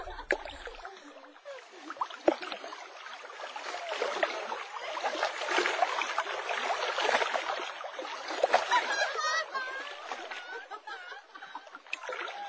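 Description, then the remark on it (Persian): Continuous splashing and sloshing in shallow water, steady, with irregular bursts of spray and churning rising and falling across the whole stretch, no voices. “اونجا سویل هم ورتر است. اینجا شما بازی کرده می توانه.”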